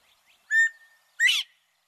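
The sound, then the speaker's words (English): A northern bobwhite quail calls with two clear, whistled notes, the second rising and sharper, against a quiet background. “As a result, bobwhite numbers have plummeted.”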